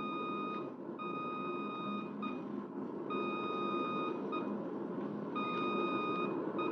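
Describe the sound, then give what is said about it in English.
Radio range navigation beacon tones heard by a pilot making a low-angle approach and banking toward the beam: a steady, high-pitched keyed tone switching on and off in long and short bursts, sounding over a constant bed of hissing radio static. “And as you bank toward the beam, trying to hit the thin line where the A and N signals merge into one highway, you hear...”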